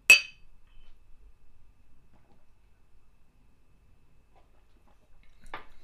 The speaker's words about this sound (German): Lass mal anstoßen, vielleicht fällt uns da noch was ein. Ja, das ist eine gute Idee. Prost. Prost.